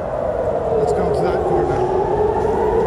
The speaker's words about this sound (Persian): صدای آژیری که هر از چندگاهی در برخی شهرهای اسرائیل شنیده می شود. هشدار حمله راکتی.